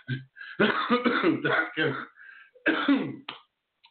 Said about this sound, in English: Still coughing just a little bit, just an annoying little cough.